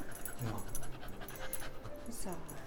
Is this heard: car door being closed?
no